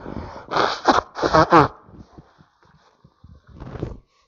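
Two loud, honking nose blows in quick succession, each a harsh burst of air with a buzzing edge, followed by quiet shuffling and a shorter, softer snort near the end.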